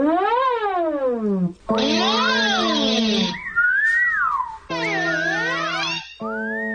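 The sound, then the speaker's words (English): Whistling into a microphone, sent in via Skype, heard alone as loud, buzzy, sliding tones in a few bursts, rising and falling in pitch with warbling swoops and short gaps between phrases. “whistling into a microphone.”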